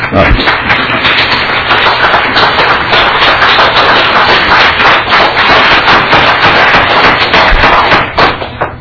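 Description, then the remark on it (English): A crowd at a committee hearing on a bill claps steadily for about eight seconds after a testimony, a dense, loud patter of many hands that holds even throughout before tapering off abruptly at the end. “Let's try to keep the applause to happening in our hearts and in our countenance.”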